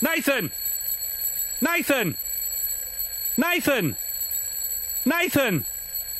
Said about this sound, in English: I think he might not be able to hear you because right. that alarm is really loud.